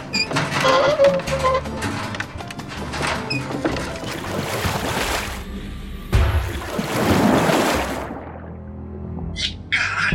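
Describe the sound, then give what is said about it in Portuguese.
Churning open-sea water and surging waves, loud, with broad rushing swells that rise and fall, a brief lull, then another heavy wash of water, out on the open Caribbean Sea. “A gente tá em alto mar. É óbvio que ia ser mais frio.”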